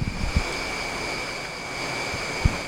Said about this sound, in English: You can hear the river down below has broke its bank. Let's have a listen.